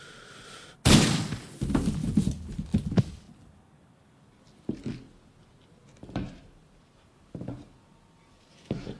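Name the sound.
gunshot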